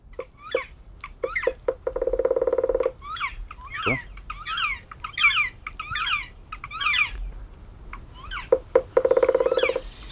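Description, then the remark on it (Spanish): Two loud drum rolls from a male black woodpecker at the nest with the female, each lasting over a second, separated by a run of sharp, chirpy calls that keep going between and around the bursts. “Déjame un segundito parar al pájaro carpintero”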